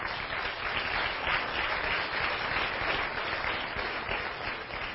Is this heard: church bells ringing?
no